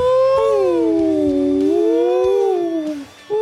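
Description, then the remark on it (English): A voice imitates whale song with one long, loud moaning tone that glides slowly downward and then rises, breaking off briefly near the end before starting up again. “It's really quickly becoming whale song week on week, isn't it?”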